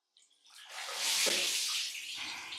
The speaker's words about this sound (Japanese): じゃあ泡を流すぞ。目をつむっておくのじゃぞ。行くぞ。